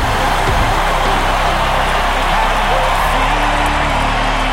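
A large baseball stadium crowd stands and applauds Mike in a steady, dense roar of clapping and cheering that holds loud and unbroken throughout, with no distinct voices standing out.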